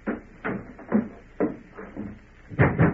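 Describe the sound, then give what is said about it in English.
A door at a ranch is forced open at night by people breaking in, with a series of heavy thumps and rattles and irregular knocks, ending with two quick loud bangs. “Open the door. Open up there.”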